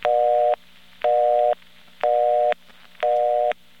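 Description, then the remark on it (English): A mechanical telephone busy signal from a non-electronic phone company office: four evenly spaced tone bursts, about half a second on and half off, each with a sharp click at start and end over a low steady hum. “That is a mechanical busy signal.”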